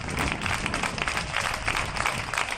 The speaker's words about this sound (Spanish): Son las 8, las 7 en Canarias. Nosotros también aplaudimos a nuestros héroes todos los días a esta hora.